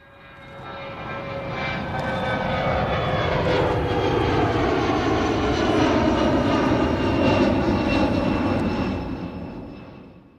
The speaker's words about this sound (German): das war nicht der Privatflieger von Friedrich Merz und auch nicht der Jet von Franz Josef Strauß, den du ja schon erwähnt hast, aber sowas Ähnliches